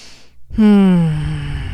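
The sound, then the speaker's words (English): A deep breath let out as a long, voiced sigh that falls in pitch, fairly loud, after a brief moment of near silence. “You're going to hear me take those deep breaths throughout this entire episode.”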